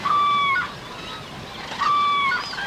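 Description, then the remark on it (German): A large flock of about 2,000 common cranes on meadows, birds from Scandinavia, mainly Sweden, trumpeting: two loud, rolling bugle calls ring out over a dense, continuous murmur of many birds calling together. “Wir haben jetzt hier auf den Wiesen bestimmt 2000 Kraniche. 2000 Kraniche. Und hört mal hin. Die Trompeten auch.”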